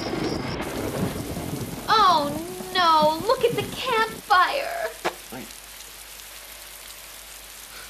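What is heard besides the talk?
rain with thunder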